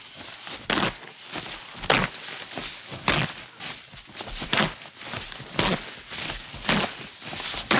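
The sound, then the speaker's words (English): Z brand paper towels are torn off a roll one after another to demonstrate the extra towels per roll, about a dozen crisp, rustling rips in a steady, quick rhythm, with no voices. “We'll demonstrate how many more towels by pulling off the extra towel, just the extra towels from a roll of Z.”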